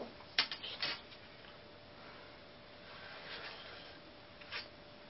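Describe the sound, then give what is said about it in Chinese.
Quiet HB pencil scratches on paper while drawing grid lines: a couple of quick strokes near the start, a softer drawn-out line in the middle, and one more short stroke near the end, with no voices. “画格要用 HB 的铅笔， 不要太圆，也不要太硬。”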